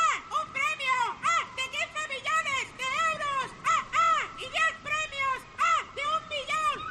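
bird, seagull calling

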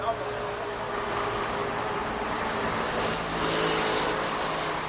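vehicle, city traffic

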